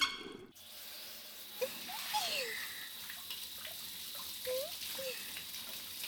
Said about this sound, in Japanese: 流しちゃいます、シャワーを。